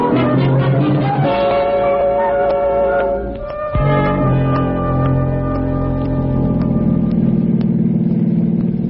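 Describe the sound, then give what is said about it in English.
A car engine roars steadily at speed, around 90, a loud, sustained droning hum with layered tones that briefly dips around the midpoint, like a gear change, then resumes at a slightly different pitch. “Gonna have me a car like this someday.”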